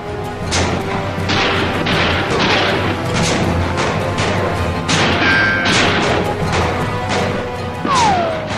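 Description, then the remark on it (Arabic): A steady barrage of loud gunshots, fired to intimidate rather than to kill: sharp cracks and booms firing irregularly every fraction of a second, with a couple of brief whining ricochet-like tones. No one speaks. “إنهم يطلقون النار علينا للترهيب وليس للقتل.”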